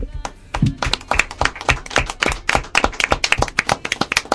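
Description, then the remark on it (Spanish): A group of people clapping steadily after a story is read out, a dense run of sharp, loud hand claps that keeps going the whole time without any voices over it. “Bueno, yo creo que esto se merece un fuerte aplauso, ¿no?”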